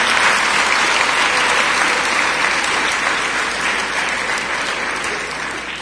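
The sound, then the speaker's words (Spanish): Sustained, warm applause from an audience at a university in Ecuador welcoming Professor Richard Stallman, a dense, steady wash of many hands clapping that holds loud throughout and fades slightly toward the end, with no one speaking. “Con la presencia del profesor Richard Stallman, quien nos visita al Ecuador y a quien le tributamos con caluroso aplauso la bienvenida a nuestra universidad y a nuestro país.”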